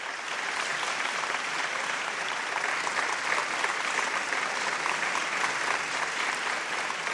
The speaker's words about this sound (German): Oh, Achtung! Ich höre schon den Beifall. Das Konzert ist zu Ende.